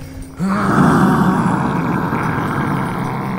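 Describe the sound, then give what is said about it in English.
A person's voice performs a long, loud, weary monster roar from a distant corner, off to the left: a sustained low growling groan that starts abruptly and drags on for several seconds with a tired, frustrated quality. “At which point, you also hear, from a distant corner, the sound of something slightly more mundane. Just a bit of a monstrous roar.”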